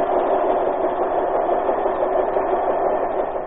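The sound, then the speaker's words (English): Giant printing presses roar, rolling at tremendous speed and printing 15,000 copies an hour of the American Weekly in full color, in a steady, unbroken mechanical drone, loud and even from start to finish, with a dense midrange hum and no voices. “The roar of the presses. Every week, these giant presses roll and keep rolling at tremendous speed.”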